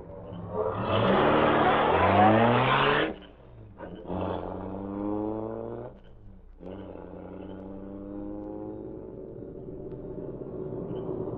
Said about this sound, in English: Car coming fast. Maybe a police, no doubt. Yeah, it is.